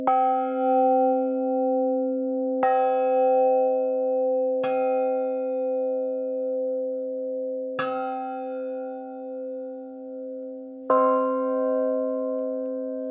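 A large bell is struck five times at uneven intervals at a different spot than its bottom, each sharp hit adding to a rich, sustained ringing hum with shimmering overtones including a fifth, an octave and a minor third, ending on a low undertone, resonant, with no voices.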